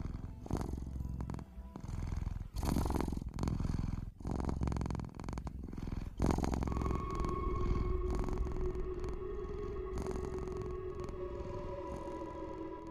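A cat purrs, a low, steady rumbling pulse that keeps going without a break. Partway through, a soft sustained tone rises beneath it, with no talking.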